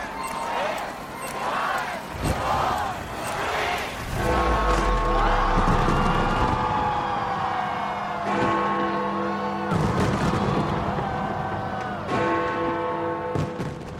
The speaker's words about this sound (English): This was London by the banks of the River Thames a short time ago. It's estimated 100,000 people bought tickets to see the fireworks display.